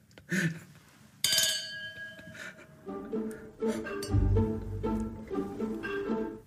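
A single sharp clink of teeth against a drinking glass rings out clearly during a toast, its bright tone lingering briefly before people start talking.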